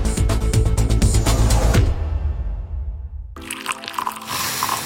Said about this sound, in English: Smell that? That's the smell of carefully crafted coffee being poured into your cup with natural notes you can truly taste and freshness you can count on.